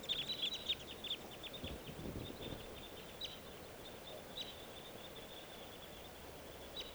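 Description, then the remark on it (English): Quiet crossbill flight calls, short sharp chips repeated in loose bursts, thinning out over a soft outdoor background as two crossbills take off, join a flock of three others and move away up a creek. “The two crossbills just took off, joining a flock of three others.”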